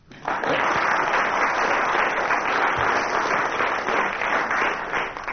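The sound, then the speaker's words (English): Sustained applause from commissionaires, a dense steady wash of many hands clapping at once for several seconds, loud throughout and tapering slightly at the end. “The commissioners clapping there had misled us.”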